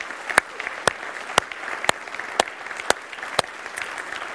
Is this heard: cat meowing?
no